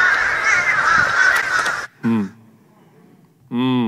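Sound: crow cawing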